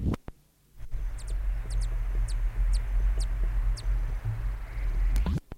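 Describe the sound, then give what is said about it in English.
A male bird in its territory gives a series of about ten sharp, high chip notes, some in quick pairs, spaced irregularly over a steady low rumbling background, as another male flies by the territory, at about 10:30. No one speaks. “Those chips notes were given as another male flew by the territory.”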